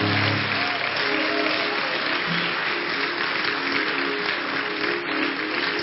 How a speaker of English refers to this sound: You know, you're clapping. It's not for me. Unto the Lord. Unto the Lord.